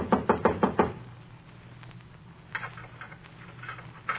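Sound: knocking on a door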